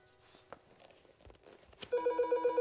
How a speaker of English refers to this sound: He answers a phone on the wall.